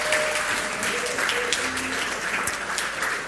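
An audience claps steadily for a participant who brought the flipchart, a dense wash of many hands applauding, sustained and fairly loud throughout without a break, with a faint murmur of voices underneath.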